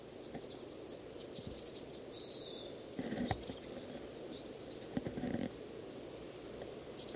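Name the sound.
bird calling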